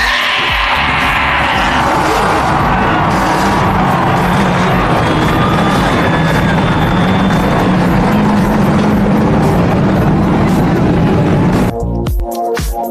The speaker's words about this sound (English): And gentlemen, start your engine!